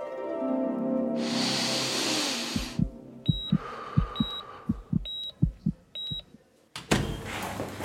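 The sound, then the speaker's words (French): A steady heartbeat comes through a stethoscope during a medical examination of a patient, as soft, low, muffled thumps in a regular rhythm. Scratchy rustling comes first, and faint high beeps sound alongside the beats. “Et du coup, vous voulez bien m'ausculter pour voir si... Bien sûr, je vais vous examiner.”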